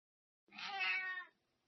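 cat meowing

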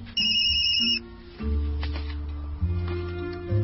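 mobile phone ringing

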